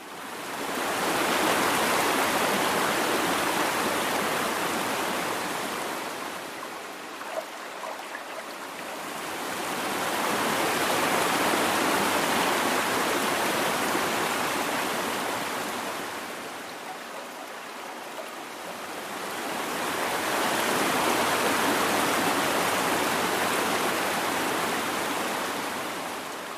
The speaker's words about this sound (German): und mehrmals Wasser abwechselnd von einem Eimer in den anderen gekippt und außerdem auch sehr viel Hall dem Ganzen noch hinzugemischt. Das Endergebnis klingt dann so und das hört sich dann doch schon sehr viel mehr nach einem Ozean an.